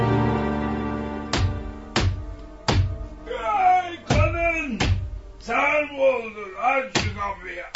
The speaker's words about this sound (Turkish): Evinden beri kapıyı çalıyorum. Uyuyor muydun yoksa?